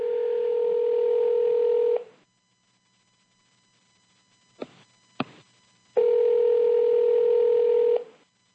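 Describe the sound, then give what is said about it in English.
A steady telephone line tone plays for about two seconds, then two sharp clicks of dialing follow as a number is redialed, and the same flat tone returns loudly, like a repeating invalid-number signal. No voices. “It's odd that when I phone this number, it goes not a valid.”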